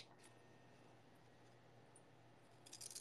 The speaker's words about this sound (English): If I just cut him, it'll be okay. What are you gonna cut him with? Oh, the scissors. This, if I just go like this, he's gonna be really tiny now.